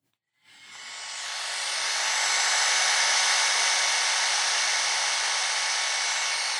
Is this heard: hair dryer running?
yes